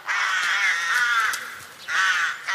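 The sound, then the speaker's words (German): Harsh, raspy crow caws sound loud, one drawn-out call running about a second and a half, a brief dip, then another strong caw, with no voices present. “Krähen. Ein Porträt.”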